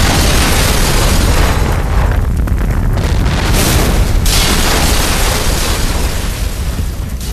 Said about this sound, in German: Glücklicherweise beträgt die Wahrscheinlichkeit, dass jemand diese Explosion überlebt, genau 1 zu 1 Million.